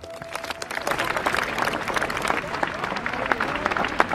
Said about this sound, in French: Des applaudissements en guise de discours et des Marseillaises entonnées pleines de douleur.